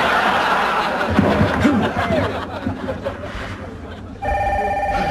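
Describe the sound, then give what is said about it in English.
A loud telephone bell starts ringing near the end, a bright, steady metallic trill that cuts in abruptly after a stretch of muffled laughter and background commotion. “How about we burn that phone?”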